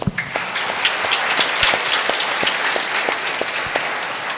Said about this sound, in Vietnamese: Cộng đoàn giáo xứ chúng con xin chúc mừng cha bằng một tràng vỗ tay.